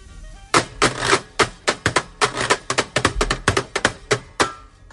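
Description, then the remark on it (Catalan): A washboard, as played in a band, scraped and tapped with thimbles worn on the fingers, producing a quick rhythmic run of bright, metallic clicks and rasps, loud and steady with no voices. “Doncs així sona, aquesta taula de rentar.”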